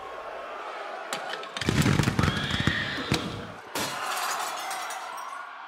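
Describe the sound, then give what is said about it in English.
Sharp, irregular gunshot cracks from National Guard troops firing on a crowd during a riot in Lower Manhattan, in a rapid cluster over a dense, roaring crowd clamor, with one more loud shot before the commotion settles into a steady noisy din. “They fire warning shots, but they don't help. So they open fire on the crowd.”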